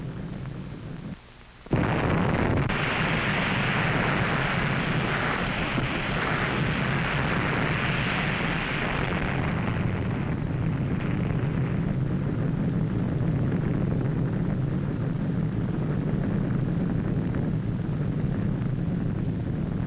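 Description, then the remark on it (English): After a brief hush, the roar of a nuclear blast among a target fleet of ships, from archival footage, bursts in and stays loud, a dense thundering rumble that gradually darkens into a deep, continuous low rumble with no speech. “The next scene is a spectacular aerial view taken from directly over the blast.”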